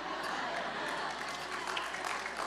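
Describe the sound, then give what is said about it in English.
Steady audience applause for a joke fills the whole stretch, a dense, even patter of many hands clapping at a fairly loud, constant level with no pauses. “I can't believe you're clapping for that.”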